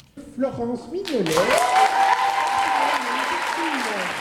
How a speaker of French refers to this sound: Et une pluie d'applaudissements a accompagné les lauréats 2024.